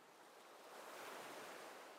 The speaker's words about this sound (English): Now, let's just lay here and enjoy the ocean breeze for a bit.